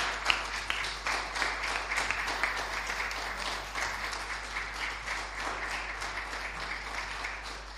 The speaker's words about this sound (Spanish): Un aplauso para ella.